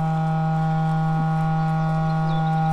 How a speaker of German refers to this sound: Was wir da gerade eben gehört haben, ist … von … mit dem Nebelhorn oben auf diesem Wachturm.